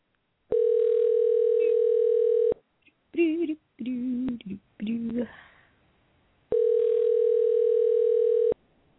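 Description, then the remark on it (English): A phone ringback tone on an outgoing call sounds twice, each a steady, fairly loud two-second hum separated by a pause of about four seconds, with a voice speaking briefly between the two rings. “And we're dialing. And it's ringing.”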